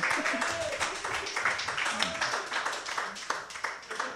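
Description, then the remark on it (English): An audience claps steadily for several seconds, a dense wash of overlapping hand claps at moderate loudness with faint crowd murmur beneath, holding fairly even throughout. “Yes, you can clap for it.”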